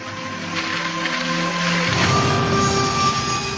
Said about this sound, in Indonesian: Suara derum mesin masih terdengar, bersaut juga suara karyawan yang mulai mencairkan suasana, termasuk aku.